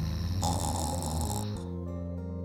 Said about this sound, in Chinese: 妈妈，那是什么声音？ 那是爷爷的打呼声。嘘，小声点，爷爷正睡得很熟呢